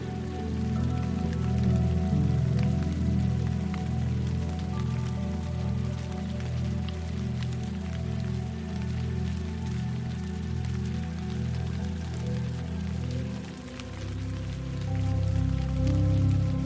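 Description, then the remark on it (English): Steady rain falls throughout, a dense patter of drops over a soft, low tonal hum, loud and continuous with no voices. “Now feel the rain clearing not just your body, but also your mind.”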